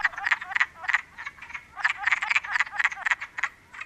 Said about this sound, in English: Often thought of as a first sign of spring, the call of the wood frog is similar to a squawking chicken or quacking duck.